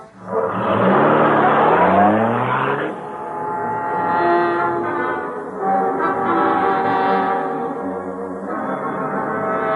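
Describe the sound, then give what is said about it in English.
A taxi's engine revs loudly and pulls away, its pitch climbing over the first few seconds, then gives way to steady, droning horn-like tones that sustain to the end. “He's getting in a taxi.”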